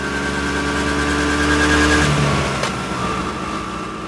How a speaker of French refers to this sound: Extérieur jour, route entre Rome et Ostie. Judith et François roulent en scooter à toute allure.